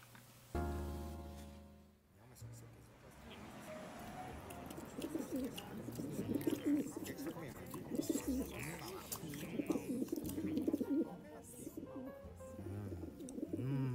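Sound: pigeons cooing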